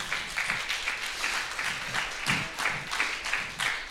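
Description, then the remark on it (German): A church audience applauds the children's service workers, a steady wash of many hands clapping with faint rhythmic pulses, moderately loud and continuous throughout, with no voices standing out. “Ansonsten gebt den Applaus dann weiter an die anderen.”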